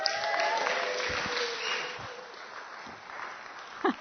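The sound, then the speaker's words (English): A church crowd claps steadily for about four seconds to welcome a speaker, a dense, even patter of many hands at moderate volume, with a few brief voice sounds near the end. “You should never applaud before someone speaks, should you?”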